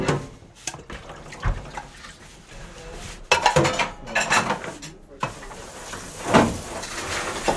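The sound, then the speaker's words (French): Dishes being washed at a sink, with running water and repeated clinks and clatters of pots and cutlery, some sharper knocks standing out over a steady wet background. “Je fais la vaisselle.”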